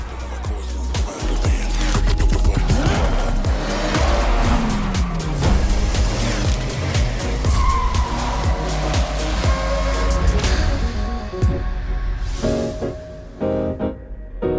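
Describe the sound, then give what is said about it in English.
Race cars in a racing video game gameplay trailer, shown as in-engine footage, roar loudly and continuously, engines revving and shifting as they pass, with tires squealing and skidding through corners; the roar eases briefly near the end before rising again. “as far as the gameplay trailer, safe to say for the racing connoisseurs out there”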